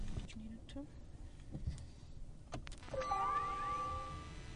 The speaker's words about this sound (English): I actually did, but we'll switch it off and put it back on so you can hear for yourself. Yeah. Not technically an engine, right? It's a electric motor. But let's start it up.